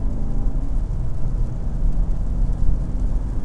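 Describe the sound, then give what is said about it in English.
A steady low engine drone and road rumble from a car cruising at highway speed, about 66 miles an hour in sixth gear, continuous and fairly loud, with no voices. “66 miles an hour, sixth gear.”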